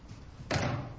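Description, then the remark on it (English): A chair being adjusted gives one sudden, solid knock, followed by a brief low rumbling scrape as it settles. No one speaks. “Now the chair's not cooperating.”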